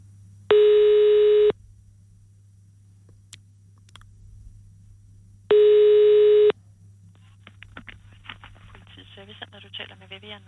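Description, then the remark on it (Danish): Two long, steady telephone ringback tones about a second each with a pause between, on a phone call to the Lolland-Falster police in Denmark, followed by faint talking over a low background hum. “Det er dansk politi, men er det Lolland Falsters politi, jeg ringer til?”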